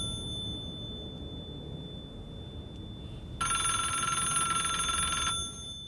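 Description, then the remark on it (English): A public payphone, a standalone phone with no hood or box around it, rings once in a bright, rattling burst lasting about two seconds, fairly loud, over a low steady background rumble; no one speaks. “He reaches out his gloved hand and picks up the receiver.”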